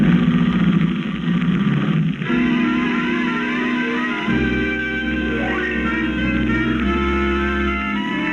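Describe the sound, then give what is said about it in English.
A sheriff's car engine runs steadily and loudly, a continuous droning rumble with a slight shift in pitch partway through, and no voices over it. “The sheriff's car. Nobody will stop it.”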